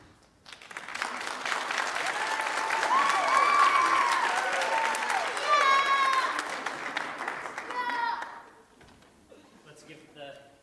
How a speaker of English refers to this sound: Let's give the puppeteers another round of applause.